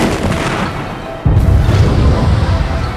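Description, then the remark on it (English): A cannon fires with a sudden, heavy boom about a second in, followed by a loud, sustained low rumble of explosion that rolls on to the end, powerful. “The cannon fired. The pulse of the thing made the superstructure vibrate, the 2 gull wings vanishing in a ball of flame the next instant.”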